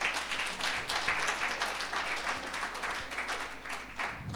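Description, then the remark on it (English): An audience at a Sunday morning church service in Franschhoek claps for the worship band, a steady wash of many hands applauding at an even level for several seconds, with no voices standing out. “Thank you, worship band. Can we give them a clap?”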